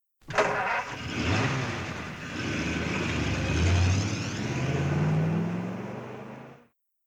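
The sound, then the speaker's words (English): A car engine cranks and catches at the start as Fred gets back into his car, then settles into a steady running hum with rising tones as it revs and pulls away, lasting several seconds before cutting off. “Fred gets back into his car.”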